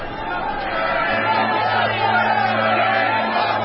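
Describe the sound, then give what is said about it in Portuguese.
A dense crowd of many voices clamoring and shouting together, calling on Pilate to release a prisoner, a continuous loud babble with no single voice standing out, plus a steady low hum underneath. “A multidão veio e começou a pedir que, como era o costume, Pilatos libertasse um preso.”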